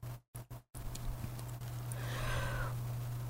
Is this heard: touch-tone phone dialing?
no